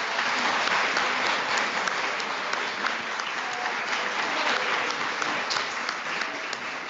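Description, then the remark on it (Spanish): Sustained applause from an audience at a Mass, given for the children, dense steady clapping at an even loudness for several seconds, with no talking over it. “Un aplauso para los niños.”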